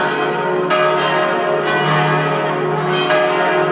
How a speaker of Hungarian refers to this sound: Látszanak a harangok, a harangtorony nyitott, billegnek a harangok. Minden ütésnél megjelenik az ablakba a harang, lendületben van.